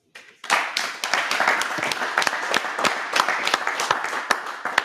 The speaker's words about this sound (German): Auch aus dem Chat klatschen und so weiter.